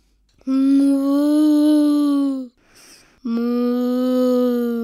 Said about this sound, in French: La vache.